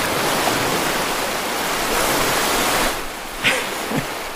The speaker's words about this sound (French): Ou sinon ça, ouais. Des vagues, oh là.